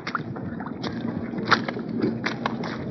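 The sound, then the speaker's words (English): Water sloshes and splashes in irregular bursts as American United Nations troops with 60-pound packs wade across a shallow rock and ice-bedded river east of Seoul during war, over a steady low rumble, with no talking. “These are the sounds of American doughfoots with 60-pound packs on their back, wading across the shallow rock and ice-bedded river that winning armies have crossed four times in this 10 months of war.”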